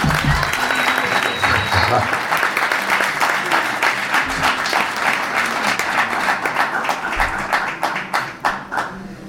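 An audience bursts into sustained applause, a dense, loud patter of many hands clapping that holds steady for several seconds before thinning out toward the end.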